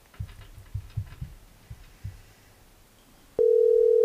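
A telephone call ringing on the line as hosts try to reach a guest by phone: a few soft, muffled low thumps, then a loud, steady electronic tone cuts in and holds to the end.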